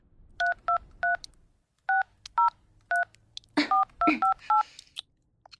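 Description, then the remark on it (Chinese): A mobile phone keypad beeps through a string of dialing tones as a call to the police is dialed, about ten short, clear presses in quick groups with a brief pause, plus a faint rustle of handling partway through. Nobody speaks. “我打就是了。你先别动手，把手机给我。”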